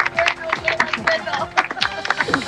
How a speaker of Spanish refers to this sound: Son los aplausos, escuchemos. Felicitaciones, gran valor. Es parte de la ceremonia que está ocurriendo hasta ahora con la entrega de diplomas, de distinciones a los estudiantes, repetimos, que están recibiendo este reconocimiento.